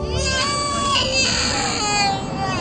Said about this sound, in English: The man drives with his family in a big SUV. A baby cries in the backseat as the woman talks on her phone.